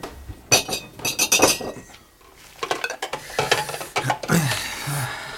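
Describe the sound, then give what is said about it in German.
Glasses clink and knock together repeatedly as they are gathered up, with bursts of bright chinking separated by short pauses, fairly loud, with no talking. “Ich muss mich um die Gläser kümmern.”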